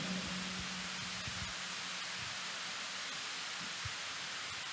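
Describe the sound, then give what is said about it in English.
An audience claps together as a clap offering in a dense, steady wash of applause that holds at an even, fairly loud level for the whole stretch, with no voices over it. “A clap offering.”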